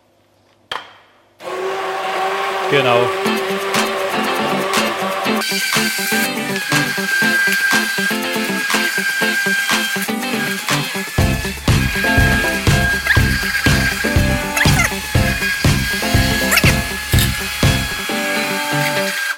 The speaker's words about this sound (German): Und Pürierstab ist hier.